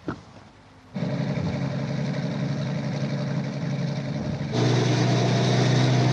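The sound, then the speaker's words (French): A heavy truck engine kicks in after a brief quiet moment and rumbles steadily, then grows louder with a deeper, sustained drone near the end, in the trailer for the film Le Salaire de la peur. No one speaks. “Quatre hommes vont jouer leur vie au volant de ces camions.”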